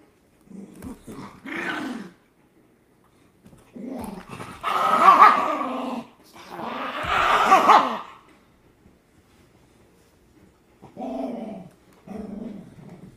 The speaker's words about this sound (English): Dogs are going crazy.